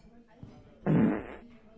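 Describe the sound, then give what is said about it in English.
A loud fart blasts right into the microphone for about half a second, buzzy and rumbling, after a stretch of quiet background noise. “Oh, you farted in the microphone.”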